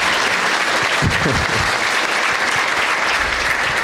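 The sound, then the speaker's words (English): Steady, loud applause from a show audience welcoming comedian Sam Morril, a first-time guest, fills the whole stretch, a dense crackle of many hands clapping at once with no pause, a brief low voice-like murmur rising underneath early on. “Let's hear it for Sam Morril, everybody.”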